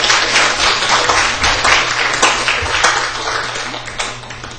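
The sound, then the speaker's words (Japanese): An audience at a church worship service claps steadily for several seconds, a dense wash of many hands with no voices, the sound slowly tapering off toward the end. “全員引き渡り拍手を持って”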